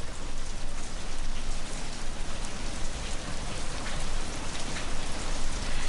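Steady rain falls continuously, a dense, even hiss of drops pattering on a hard surface, fairly close and moderately loud, with no voices or other sounds.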